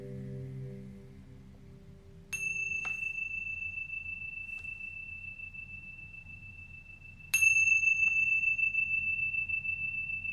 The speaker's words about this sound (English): Now wiggling your toes and your fingers, And when you hear the sound of the chimes, gently coming back into the space.